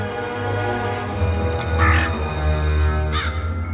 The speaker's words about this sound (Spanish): Víctor corre a la ciudad dejando a Emily en el claro del bosque. Los cuervos se remueven en los árboles.